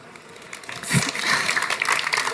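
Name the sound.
audience applause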